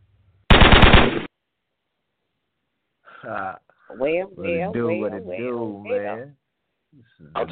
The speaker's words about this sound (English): The gunshot was loud, like somebody was really tapping at it.